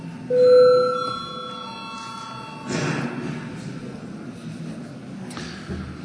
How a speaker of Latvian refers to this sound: Līdz ar to lūdzu zvanu, lūdzu reģistrācijas režīmu.